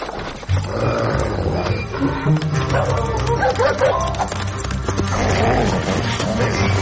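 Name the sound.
dog barking and growling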